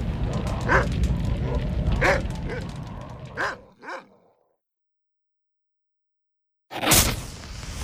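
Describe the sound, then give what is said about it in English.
The boss's two-headed satanic dog in Telehell barks several times at irregular intervals over a dense, busy background, the last two barks close together before a sudden silence, followed by an abrupt loud burst of noise. “As long as I'm watching the boss's dog, I might as well watch a how-to video on how to take care of satanic canines.”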